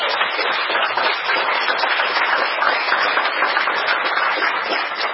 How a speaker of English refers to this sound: So you can certainly give a round of applause for that.